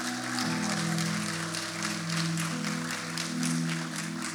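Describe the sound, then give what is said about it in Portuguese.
A crowd claps for Jesus in a dense, continuous wash of applause that stays loud for several seconds, over a sustained low keyboard drone with no voices on top. “Se você tiver, aleluia, aplauda Jesus.”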